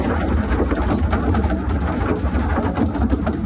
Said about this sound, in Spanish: Esto que escuchas es el granizo cayendo sobre un autobús interurbano en medio de la carretera de La Coruña.